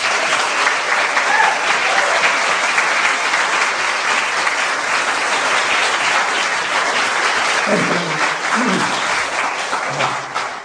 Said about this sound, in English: Please give a round of applause